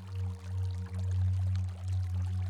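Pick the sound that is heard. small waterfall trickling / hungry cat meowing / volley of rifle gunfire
small waterfall trickling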